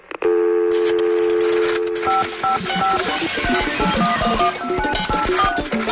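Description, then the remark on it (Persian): A steady tone gives way to a rapid series of short, loud telephone keypad beeps, dialing the Radio Farda voicemail number, layered over a rhythmic musical backing with no voices. “شماره تلفن پیامگیر رادیو فردا”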